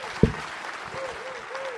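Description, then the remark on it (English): Steady audience applause for actor Mark Addy of York, a dense wash of clapping that holds at an even level throughout, with a brief low thump near the start and faint rising-and-falling tones over the clapping. “Will you give him a massive round?”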